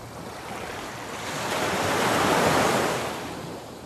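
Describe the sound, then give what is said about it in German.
Ocean waves surge in a broad, steady wash of noise, building gradually to a swell near the middle before easing back slightly. No voices, just continuous surf. “Und wenn du magst, kannst du nun diese kraftvolle Energie des Meeres mit in deinen Tag nehmen.”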